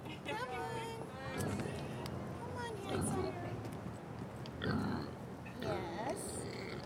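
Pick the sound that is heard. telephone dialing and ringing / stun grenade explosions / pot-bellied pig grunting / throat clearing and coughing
pot-bellied pig grunting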